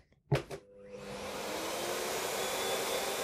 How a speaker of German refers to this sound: Ist das nicht unfassbar leise? Also ist auf jeden Fall mindestens um die Hälfte leiser als unser alter Staubsauger und das finde ich total irre.